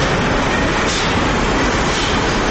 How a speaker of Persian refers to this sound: جوانان عزیز، وقت داخل فابریکه شدم با فضای بی‌اندازه گرم مواجه شدم و سر و صدای ماشین‌آلات داخل فابریکه را چنان پیشونده بود که با مشکل صدای یکدیگر شنیده می‌شد.